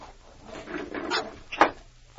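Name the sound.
window being opened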